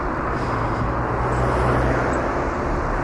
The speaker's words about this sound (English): Now this is quite a busy road. Pedestrian wise it isn't, but there's a lot of traffic on this road. It's a main road through this village, and it's the village of Fulbourn.